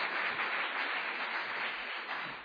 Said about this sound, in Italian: Amen, facciamo un forte applauso al Signore.